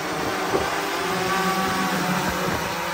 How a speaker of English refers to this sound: Was delivered by drone, and 10 feet doesn't sound like a lot, but when you see it drop from 10 feet, it's a while. Okay, there's the drone.